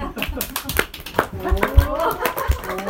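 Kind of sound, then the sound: crowd, audience clapping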